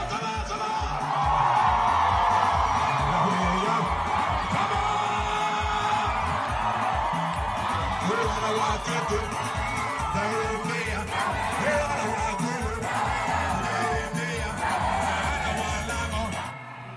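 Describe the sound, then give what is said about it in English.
A large crowd at a celebration cheers and shouts continuously, with whoops and yells rising over a dense roar of many voices, sustained and loud throughout, recorded on an iPad at night. “And that night, in fact, I took my iPad out and took some video of the crowd.”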